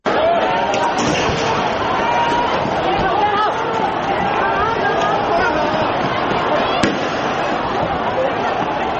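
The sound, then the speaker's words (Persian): Tear gas fired during an unauthorized pro-democracy street protest in Hong Kong: a dense crowd roars and shouts continuously while a few sharp, isolated pops of tear gas canisters being fired cut through the din at irregular intervals. “شلیک گاز اشکاور در جریان اعتراض‌های بدون مجوز رسمی در شهر هنگ کنگ، چیزی که زمینه رویارویی دموکراسی طلبان و پلیس را فراهم کرده.”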